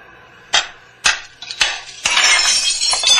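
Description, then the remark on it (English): Three sharp, hard knocks strike glass in quick succession, then a rock breaks a window pane of a factory in a loud, bright shatter, with shards crackling and tinkling for the final second. “You going to crawl through that hole in the window?”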